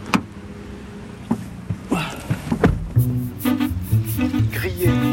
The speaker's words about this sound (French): Alors, je rentre vite dans la voiture et on continue la route.